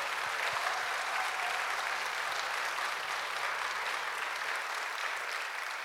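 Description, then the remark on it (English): Steady audience applause at a Vacation Bible School Sunday church service, for those who came up to share, fills the whole stretch, a dense, even wash of many hands clapping at constant loudness, with a low hum underneath that drops away near the end. “If we could get a round of applause for all of our friends having the courage to get up here today.”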